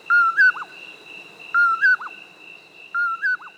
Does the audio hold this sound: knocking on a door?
no